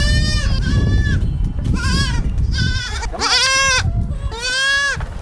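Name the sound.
baby goats bleating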